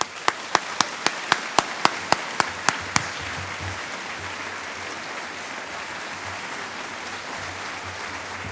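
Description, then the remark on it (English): Audience applause for Nobel Prize-winning physicist Dr. Bill Phillips as he is introduced: a run of about a dozen sharp, evenly spaced claps opens, then merges into a steady, dense wash of many hands clapping that continues at an even level to the end. “So please give a hearty round of applause to Dr.”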